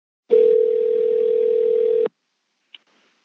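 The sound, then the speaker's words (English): A steady telephone dial tone hums for about two seconds as someone picks up the phone and dials, then cuts off abruptly, followed by a single short keypad beep and quiet line noise. “They're sympathetic to the human condition, I say aloud as I pick up the phone.”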